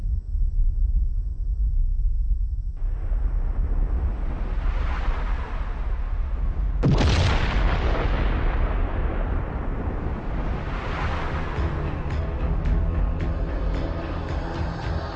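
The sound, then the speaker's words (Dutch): A loud, continuous roar of explosions in space, which spread iron, with a sharp blast near the middle, followed by deep rumbling and crackling debris, sweeping swells rising and falling throughout, no voices. “De verspreiding van ijzer in de ruimte is mogelijk als resultaat van deze ontploffingen.”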